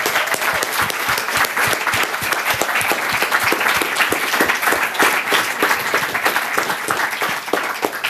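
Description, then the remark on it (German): A crowd applauds steadily for several seconds for the helpers, mentors and organizers, who stand up briefly. Many hands clap in a dense, continuous patter at an even loudness, with no voices standing out. “Und vielleicht kriegen die mal den Applaus.”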